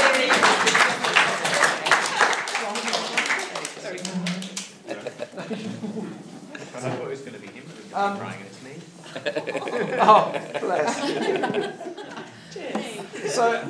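Wedding guests burst into lively applause for a few seconds after a speech, mixed with chuckles, then it fades into overlapping chatter and scattered laughter.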